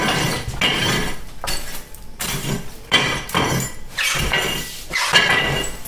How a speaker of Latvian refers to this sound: Mēs viņu cepsim uz pannas, bet viņai ir jāpaliek oglēm iekšā, jo tur nav tā krāsnes tik ļoti karsta kā rudzu maizē. Man vajadzētu sarušināt ogles.